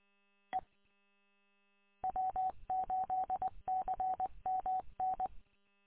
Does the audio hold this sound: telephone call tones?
yes